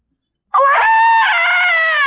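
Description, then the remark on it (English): A voice imitates a baby's blood-curdling scream: one loud, sustained, piercing wail that starts abruptly after a moment of silence and holds steady, with no talking around it. “In the middle of the night, that thing, about 2 o'clock in the morning, you never heard such a blood-curdling, spine-tingling chill that came out of that bedroom.”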